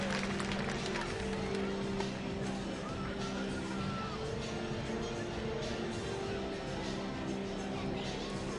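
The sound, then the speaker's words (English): A baseball crowd of Fred Nats fans gives a steady round of applause, a dense wash of clapping and crowd noise that holds an even level for several seconds, with a faint low hum underneath. “A nice round of applause here from the Fred Nats faithful, which is pretty kind of them.”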